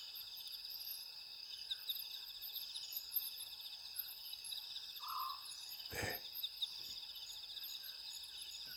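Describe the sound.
One soft, whistled note from a Scops owl rises briefly out of a steady, dense chorus of crickets at night. A sharp knock follows, and a single word is spoken quietly.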